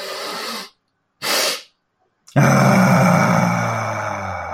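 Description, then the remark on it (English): A demonstration of a calming breathing exercise: a breathy nasal inhale of about 60% of the breath, a pause, a short sharp sniff taking about another 10%, then a long, loud voiced sigh of 'ah' that slowly fades as the breath runs out. “And it's about 60% in through the nose, then about another 10% as a sniff, and then we do a big long ah.”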